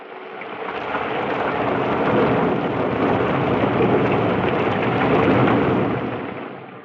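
Heavy rain pours down in a steady, dense hiss with a low rumbling undertone, swelling in at the start and fading away at the end, with no voices.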